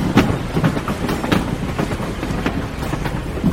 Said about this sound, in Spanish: Venga, tenemos que abordar el tren. Pero este es el tren presidencial. Sí, Cárdenas lo puso a disposición para traerlo de Tampico, Tamaulipas, a la capital mexicana.